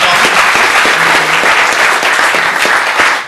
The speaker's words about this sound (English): oh, there he is. Big applause for a friend.